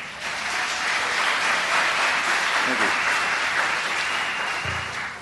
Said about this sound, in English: And he's seated right up here. If you'll just stand, give him a little hand clap.